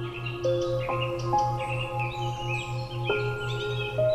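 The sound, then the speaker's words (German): Birds chirp and twitter in short, repeated calls over a calm bed of soft sustained tones and a gently pulsing low hum, with no voices. “Du hörst den Vögeln zu, wie sie dir ein sanftes Schlaflied singen.”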